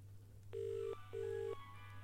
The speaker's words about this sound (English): I dialed the phone. I hear ringing down the line. And then we hear ringing in the den.